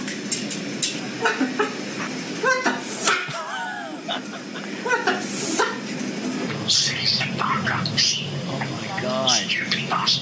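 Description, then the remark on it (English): An African grey parrot squawks and chatters in a rapid string of harsh calls, whistles and speech-like mimicry of swearing, loud, with a voice talking among the bird sounds. “These aren't the actual parrots that were in the Lincolnshire Zoo, but if you just look up basically swearing African grey parrots, then you get some pretty funny videos.”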